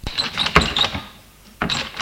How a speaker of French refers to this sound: Cette nuit, je veille. Tout à coup, j'entends la porte d'entrée qui s'ouvre.